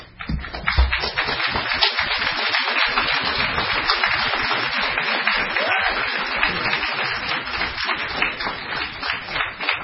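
An audience breaks into sustained applause, a dense crackle of many hands clapping at steady loudness for about ten seconds, with no voices breaking through.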